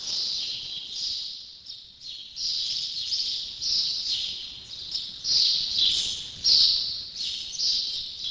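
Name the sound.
house sparrow chirping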